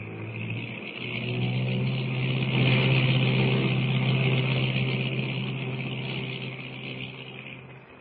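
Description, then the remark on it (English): A small plane's engine drones steadily with a deep, rumbling hum, swelling louder midway and then easing off as the aircraft lands on deep water by an island and taxis toward the beach. No voices. “Brought that plane in perfectly, Lewis.”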